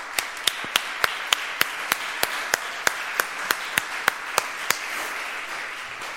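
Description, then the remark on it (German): An audience applauds the setup team: a steady wash of clapping, with one pair of hands clapping sharply and evenly about four times a second. Those claps stop near the end. “Applaus für das Aufbauteam.”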